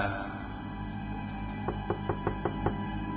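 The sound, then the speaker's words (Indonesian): Six quick, evenly spaced knocks on a house door from outside, sharp and moderately loud, sounding over a steady low hum with faint tonal background noise; no one speaks. “terdengar suara ketukan pintu di luar sana.”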